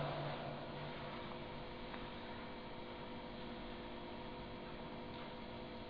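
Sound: air conditioner humming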